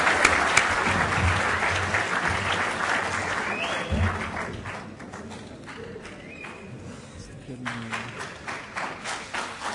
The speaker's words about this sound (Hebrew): חבר'ה, בדרך כלל מחיאות כפיים בסוף, אבל בשביל האווירה, נעשה את זה עכשיו.